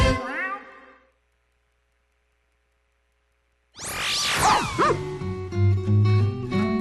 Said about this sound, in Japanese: ワンちゃんの声がいっぱいしてきましたね。